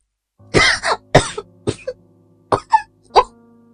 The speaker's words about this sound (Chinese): 哟，谁在咳嗽呀？声音太大，惊动了电话那头的茉莉老师。